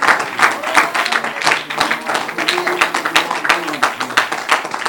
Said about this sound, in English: Come on, let's give him a hand clap of praise today.